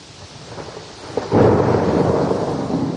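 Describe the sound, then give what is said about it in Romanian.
Rain pours steadily in the village of Cârpești as a dense, continuous hiss, quiet at first and then swelling abruptly louder after a moment, with a low rumble underneath and no voices. “Vă invităm să ascultați un reportaj de la Cărpești, făcut prin ploaie”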